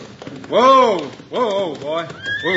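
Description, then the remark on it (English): Hickok's horse, ridden into town, whinnies in a series of loud, wavering calls that rise and fall in pitch, with a faint clip-clop of hooves running underneath. “Now look, here comes Hickok now, riding into town.”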